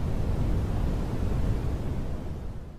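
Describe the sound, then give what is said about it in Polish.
A space sonification of Uranus's moon Ariel: a dense, deep rumbling roar with a hissy wash on top, steady and fairly loud for the whole stretch, easing slightly at the end. “Oto Ariel we wszechświecie, tak oto brzmi.”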